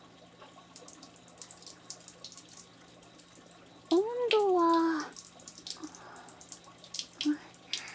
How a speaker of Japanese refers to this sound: それじゃあ、 早速やっていきますね。 よいしょっと。 まずはシャワーを。